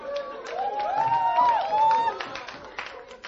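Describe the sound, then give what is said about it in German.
An audience breaks into applause, a scattered patter of clapping with cheering and whistle-like voices rising over it, steady for a few seconds. “Nochmal Applaus für ihn.”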